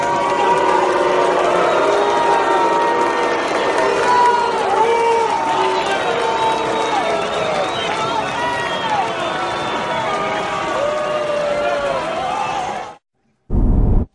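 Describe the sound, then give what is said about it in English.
A ballpark crowd at the Tigers spring training facility reacts to the announcement of Jose Altuve with a loud, sustained roar of many overlapping voices shouting and calling out for about thirteen seconds, then it cuts off abruptly, followed by a brief burst. “But when he was originally announced at the Tigers facility where they do spring training, here is how the crowd received him.”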